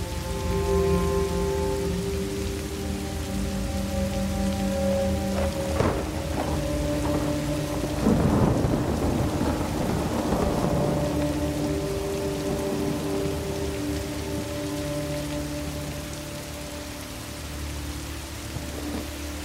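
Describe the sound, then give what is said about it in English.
Steady, heavy rain pours down on a path to a house and patters on surfaces, with low rumbles of thunder rolling through the middle. A dense, continuous downpour with no voices. “She stops in the middle of the path and looks up into the pouring rain.”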